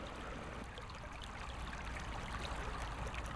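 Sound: flowing stream water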